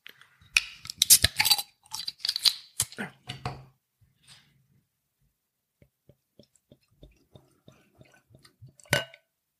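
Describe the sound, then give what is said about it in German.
A bottle of beer from the Egger brewery in St. Pölten, Austria, 5.0% alcohol, is opened amid a burst of clinking, scraping handling noises, followed by a quiet stretch of faint, sparse ticks and fizz, then one last short clatter. “Gut, dann mache ich die Flasche doch mal auf.”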